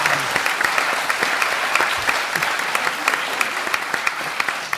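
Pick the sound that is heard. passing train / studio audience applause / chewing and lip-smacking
studio audience applause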